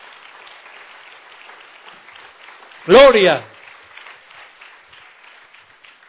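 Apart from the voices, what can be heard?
audience applause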